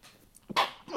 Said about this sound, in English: You know, I'm going to sneeze here.